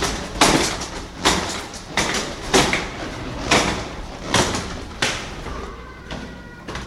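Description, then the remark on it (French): A man hauls his large shopping trolley up a staircase after doing the shopping, in a building with no working lift; its wheels knock against each step in a steady series of about eight heavy clunks with rattling in between, fairly loud, no voices. “Attendez, je monte les escaliers.”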